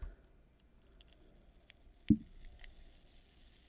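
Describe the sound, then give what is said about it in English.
A beer of about 10.5% alcohol pouring quietly, with a faint fizzing hiss and one soft, low glug about midway through. No one speaks. “Oh, there's a little glugging. Oh, excellent pour.”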